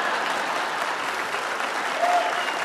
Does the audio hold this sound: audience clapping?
yes